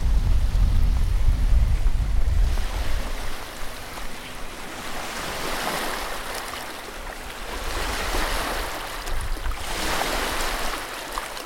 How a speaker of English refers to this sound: Like, more like a beach, as you can see just now, the water was like hitting hard coming like on the shore. And then you see all these rocks.